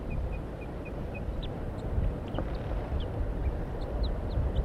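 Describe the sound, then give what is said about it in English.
Soft, high calls from a wild bird up in a pine tree and from decoy birds: a quick run of short, evenly spaced piping toop notes, then scattered sharper alarm chirps, all faint over a steady rumbling background. “Very soft toops and alarms.”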